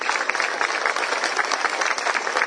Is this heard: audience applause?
yes